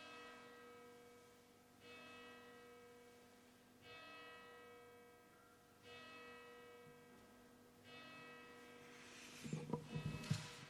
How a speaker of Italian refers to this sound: Bene, suona la campana.